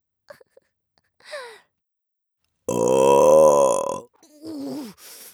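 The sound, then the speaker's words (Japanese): A loud, drawn-out burp rumbles for over a second, resonant, bracketed by a few faint breathy noises before and a shorter, lower vocal grunt after. “あ、 また出ちゃった。”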